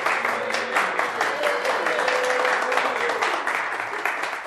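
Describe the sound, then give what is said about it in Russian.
Sustained crowd applause at a jubilee celebration, a steady dense clatter of many hands clapping for several seconds, with a murmur of voices and shouts mixed in beneath it. “Не только в праздник юбилей, вас просим, хлопайте сильней.”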